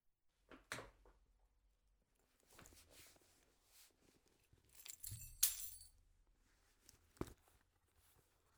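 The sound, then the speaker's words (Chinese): Car keys jangle and clink as someone searches for them, in a few scattered bursts, with one bright metallic rattle standing out midway, separated by quiet rustling pauses and no voices. “我还要找车钥匙呢。”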